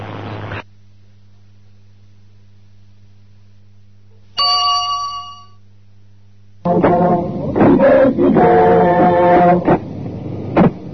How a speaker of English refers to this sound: The year 2000 has arrived in Britain. When the chimes of London's Big Ben signaled midnight, huge crowds cheered as spectacular fireworks displays went along several kilometers off.